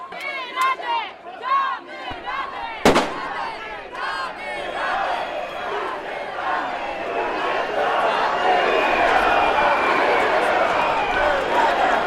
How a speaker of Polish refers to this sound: Petardy wybuchają i to widać, z której strony wybuchają.